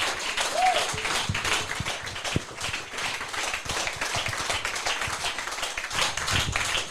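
Sustained audience applause fills the whole seven seconds, a dense steady wash of many hands clapping at an even loudness, with a brief whistle-like tone near the start.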